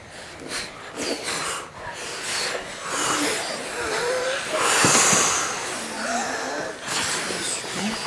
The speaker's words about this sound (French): On peut lui montrer aussi la respiration de la bougie. D'abord, c'est tout près. Plus loin.